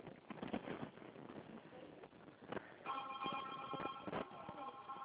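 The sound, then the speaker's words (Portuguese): A telephone starts ringing partway through, a steady, bright multi-tone ring that holds to the end, following a few seconds of clattering knocks and handling noises. “Arrui esse telefone, que é um barulheira.”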